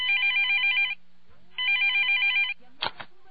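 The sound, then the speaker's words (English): A telephone rings twice with an electronic warbling trill, each ring about a second long with a short pause between, followed by a brief click as an answering machine picks up the line. “I'm sorry I can't answer the phone right now.”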